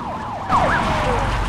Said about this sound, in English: Police cars.